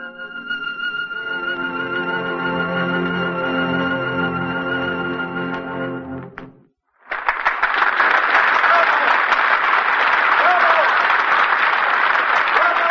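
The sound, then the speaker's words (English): Sustained orchestral music ends with a brief pause, then loud, steady audience applause fills the concert hall, continuing without letup to the end. “Sometimes when the orchestra also rose to applaud, it seemed to me that I could hear his separate voice.”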